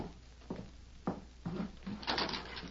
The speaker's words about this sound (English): Guess I better open that back door now.